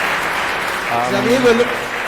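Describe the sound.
Steady applause from an audience welcoming a speaker fills the whole stretch, a dense crackling patter at moderate volume, with a brief voice speaking over it near the middle.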